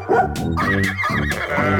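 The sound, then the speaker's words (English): A dog barks about three times in quick succession, loud, with a tonal, slightly synthetic ring to each bark and no talking underneath. “There's the horsey. And the doggy.”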